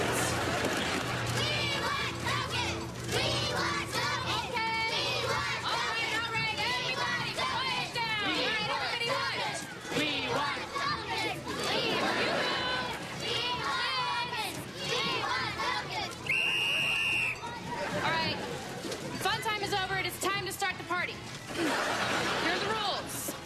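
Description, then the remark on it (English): A crowd of excited, high-pitched young voices shouts and chatters nonstop, with laughter and scuffling movement mixed in, the loud, chaotic din of children running and yelling around a busy party with a ball pit. “No running, no yelling, no hitting.”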